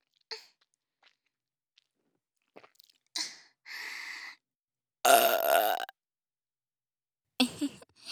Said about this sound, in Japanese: ザーメンゲップってやつだね。